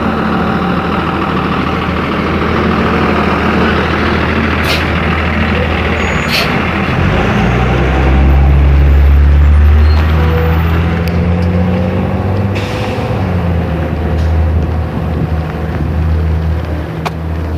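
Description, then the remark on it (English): A heavy diesel trash truck engine idles with a deep, steady rumble that swells louder for a few seconds midway, accompanied by brief hissing bursts like air brakes releasing, on a cold day. “Trash truck, school bus.”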